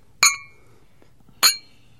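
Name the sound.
glasses clinking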